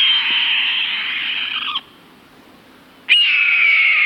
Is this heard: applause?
no